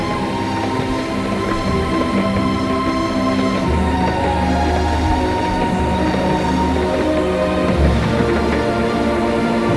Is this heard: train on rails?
yes